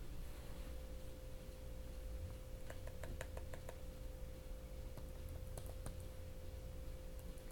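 Typing on a laptop keyboard: two short bursts of quick, light key taps, separated by a pause. They sound quiet over a steady low electrical hum, with no talking.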